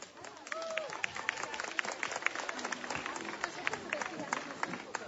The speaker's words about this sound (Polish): Zapraszamy serdecznie. Gorącymi oklaskami przywitajmy naszych przyjaciół z Ukrainy.